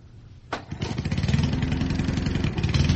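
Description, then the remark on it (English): An engine said to run on water, with a battery giving an electric charge for ignition, cranks with a sharp burst, then catches and settles into a loud, steady, rapid chugging idle with a rattling, low throb that continues to the end. “Now, you're telling me this is running on water?”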